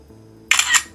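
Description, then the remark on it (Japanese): An iPhone camera shutter on iOS 10 clicks once in the photo app, a bright, crisp two-part snap starting midway through after a brief quiet lead-in, fairly loud with no talking. “写真アプリケーション、まあ、iPhone の写真アプリあるんですが、なんかね、iOS 10にしてからかな、シャッター音がすごいなんか音大きくなりませんでしたかね、これ。”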